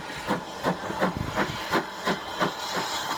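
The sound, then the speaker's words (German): A steam locomotive is uncoupled and recoupled at a remote railway station, moving in front of the observation car, with steady, rhythmic chuffs of steam about three per second over a continuous hiss and low engine rumble, with no one talking. “Spannender war darum fast die Umkoppelung der Lokomotive, die hier stattfand.”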